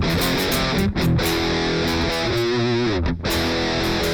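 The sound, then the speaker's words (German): A heavily distorted rhythm guitar played on the bridge pickup, with a 2000s-style digital multi-effects tone, plays chugging chords with brief choppy breaks, loud with no voices. “So klingt für mich der mit 2000er digitale Multi-Effekt Rhythmus-Gitarren-Sound.”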